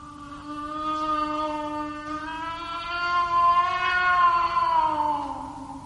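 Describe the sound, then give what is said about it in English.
A cat cries in one long, unbroken yowl lasting several seconds, its pitch wavering slightly and then sliding down at the end. The wail is loud and strained, with nobody speaking. “He's heard the cat crying.”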